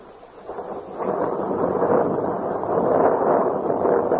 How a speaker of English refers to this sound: One night, he stayed in the library late. While there, a storm arose.